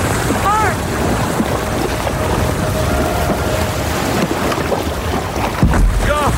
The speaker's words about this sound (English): Once the next swell comes in, we're gonna paddle like hell and ride it in. You just keep it pointed right at the beach. Now? No, hold on, not now. Okay, now, paddle hard!